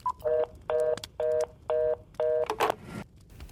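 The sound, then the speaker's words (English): A short run of five evenly spaced electronic telephone keypad tones from a phone in a cabin, each a steady two-pitch beep, followed by a brief rustle and clunk, like a handset being set down. No one speaks. “Okay, ignoring the fact that there was no phone in this cabin 10 seconds ago, what did he say?”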